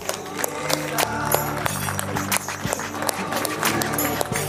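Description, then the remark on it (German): An audience in a cinema applauds steadily to welcome the magician Marc Weidel, a dense wash of many hands clapping with scattered sharper claps and a few murmured voices mixed in, sustained at an even level throughout. “Und zwar begrüßt bitte mit mir mit einem großen Applaus Marc Weidel.”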